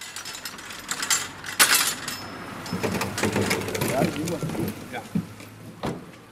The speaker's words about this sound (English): … thanks a man for helping him to pile tankards into the trunk of his car.